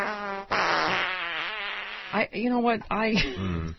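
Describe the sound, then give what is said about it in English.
A loud fart sound effect: one long buzzy, sputtering blast followed by several shorter rippling bursts with bending pitch, all without any talking. “Jessica Simpson has started tweeting about farts.”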